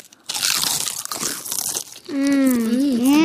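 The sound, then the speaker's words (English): Loud crunching of a salted potato chip being chewed for a couple of seconds, followed by a long, wavering hum of approval from a voice. “That is what a potato chip is supposed to taste like.”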